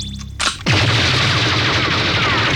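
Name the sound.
weapon firing shots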